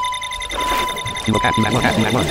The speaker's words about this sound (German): Ja, das stimmt. Aber es piepst da. Ja, du musst hingehen, dass es aufhört.